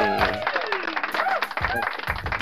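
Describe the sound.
Steady, dense clapping from a crowd fills the whole moment, loud and continuous, with voices calling out over the applause.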